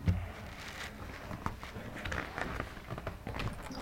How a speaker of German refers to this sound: Ja, warte mal. Ich kann es einmal umblättern.